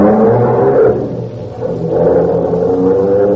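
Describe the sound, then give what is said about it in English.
A Bentley's engine revs up and accelerates, a loud rumbling roar that dips briefly mid-clip before surging again as the car pulls away to follow another car. “Follow that car. Quick, hurry.”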